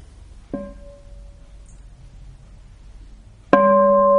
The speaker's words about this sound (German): Wenn ich das richtig verstanden habe, gebt ihr mir noch ein bisschen Zeit und dann hören wir noch eine Glocke und dann...